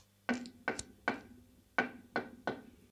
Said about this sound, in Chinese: 有人敲门